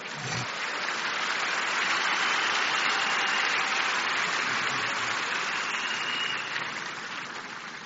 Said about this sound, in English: Please get seated. I can see somebody still trying to clap for the Lord.